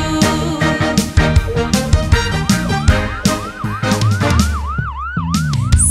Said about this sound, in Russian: Вау-вау-вау, маячок включаю. Вау-вау-вау, сирены сообщаю. Вау-вау-вау, жизни я спасаю. Я скорая помощь, всем помогаю.